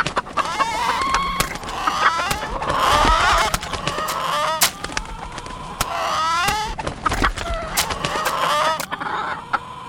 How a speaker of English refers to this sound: All the chickens are escaping!